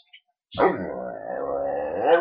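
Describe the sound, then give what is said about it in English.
A mutt dog lets out one drawn-out, warbling vocalization that bends in pitch as it tries to say "I love you", fairly loud, swelling slightly at the end after a brief silence. “He really tries to say I love you, but sometimes he barks instead.”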